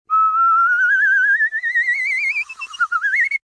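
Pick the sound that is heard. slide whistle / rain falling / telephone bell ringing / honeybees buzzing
slide whistle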